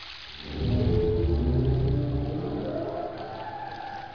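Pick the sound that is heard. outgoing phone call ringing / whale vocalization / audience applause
whale vocalization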